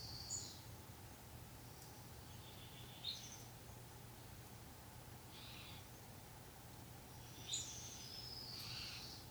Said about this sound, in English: You notice the birds.